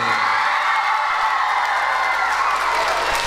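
A large crowd in Městec Králové cheers and applauds loudly and continuously as a singer enters, with whoops and claps blending into a dense, steady roar of excitement.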